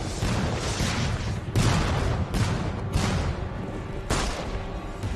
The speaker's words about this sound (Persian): شلیک کنید.